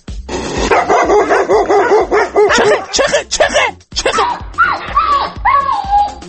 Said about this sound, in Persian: سگ بابا، من وقتی گفتم سم بهت گفتم، وقتی میگم سگیست تو صدا سگ باید پخش کنی دیگه. اسرائیل گربه پخش میکنه.